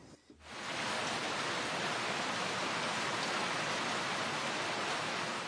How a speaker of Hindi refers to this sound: दोस्तों ये है मूसलाधार बारिश की आवाज। जापानी भाषा में इसके लिए शब्द है जाजा। ये थी मूसलाधार बारिश की आवाज।